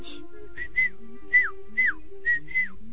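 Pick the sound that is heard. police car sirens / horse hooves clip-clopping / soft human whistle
soft human whistle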